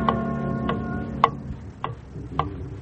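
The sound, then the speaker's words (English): A clock ticks steadily, five crisp ticks about half a second apart, clear over a soft sustained musical drone that fades midway. “And I held her in my arms and waited, watching the hands of the clock crawl round.”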